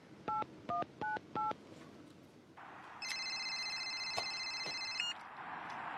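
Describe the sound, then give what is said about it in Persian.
Four quick keypad beeps of a mobile phone being dialed, clear, followed by a steady electronic ringing tone as the call connects. No one speaks. “گرچه من یه موبایل دارم. عالیه، اجازه میدی؟ البته.”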